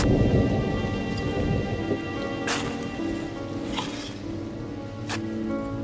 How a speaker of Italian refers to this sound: una piccola folla frettolosa perché tutti sembravano non avessero altro desiderio che andarsene il prima possibile dal momento che pioveva a dirotto.